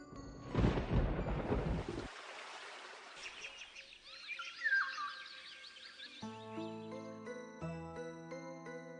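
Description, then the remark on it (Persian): A single loud roll of spring thunder rumbles for about two seconds, followed by birds chirping and then soft sustained musical tones. “بله، صدای رعد و برق شنیدیم.”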